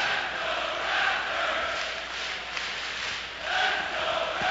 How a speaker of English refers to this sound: And this crowd is already gassed up with the chant of "Let's go Raptors."